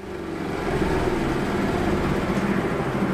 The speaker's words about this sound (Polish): I co pan na tej maszynie robi? Wszystko szlifuje, proszę pani. Tu się nakłada papier ścierny, 3 takich kuleczka, a tu jest szczotka do wycierania, do szlifowania.